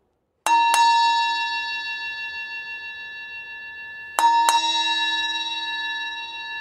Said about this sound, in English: And nearer and nearer the bell came.